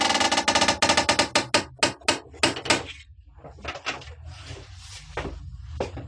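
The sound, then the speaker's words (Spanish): At night, a chain is pulled and a bell rings in a quick run of loud, rhythmic clanking strikes that slow and fade, then a heavy old carved door creaks and scrapes open. No voices are heard. “Una campana suena y a poco la pesada puerta es abierta.”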